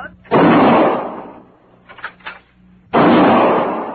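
gunshot

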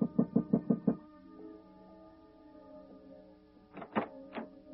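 knocking on a door

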